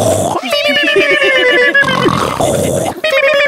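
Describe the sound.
Several voices mimic snoring together in unison, like the Three Stooges, in a loud, comic chorus: a run of rhythmic, throaty grunting pulses under a steady nasal drone, then another round of rasping snorts.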